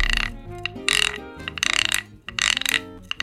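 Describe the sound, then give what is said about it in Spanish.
Rhythmic rasping strokes from a notched stick scraper, called a raspador or charrasca, three or four bright ratchety scrapes in quick succession, played over steady tonal music underneath. “En algunos lugares le dicen raspador, en otros le dicen charrasca.”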